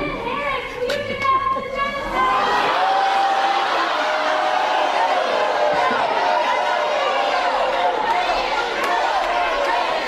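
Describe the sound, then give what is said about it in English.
A large crowd booing and jeering at a Kamala Harris and Joe Biden campaign event, a loud, continuous wash of overlapping voices with drawn-out tones rising through it and no pause for the full length. “They're getting booed everywhere.”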